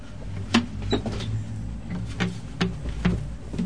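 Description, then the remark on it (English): A chair squeaks and creaks several times at uneven intervals, each a short strained squeal, over a low steady room hum with no one talking. “Is my chair that squeaks? There's something that squeaks in here.”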